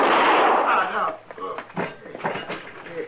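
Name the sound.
gunshot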